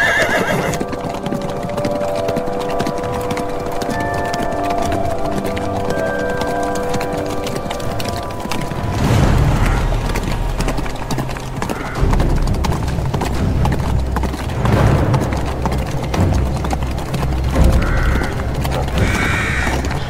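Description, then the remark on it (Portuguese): A horse whinnies near the start, then hooves clip-clop in a steady rhythm, with a faint mechanical creaking underneath; no one speaks. “Vamos a cavalo.”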